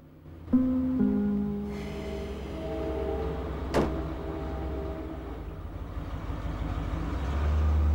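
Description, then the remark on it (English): A waiting car's engine idles outdoors with a steady low rumble and some tonal hum as a young man leaves home and heads out to it, broken by a single sharp thud partway through, like a door shutting, before the engine swells slightly. “… heads out to the waiting car.”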